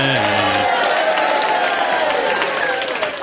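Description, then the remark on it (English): A game show studio audience bursts into loud, sustained applause and cheering, a dense wash of clapping that holds steady throughout, opening with a brief voiced shout. “I think we'll go back to being in the game show crowd. What do you reckon? We'll just join this crowd here.”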